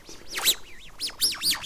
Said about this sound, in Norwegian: Jeg synes det er noen slags fugler oppi her.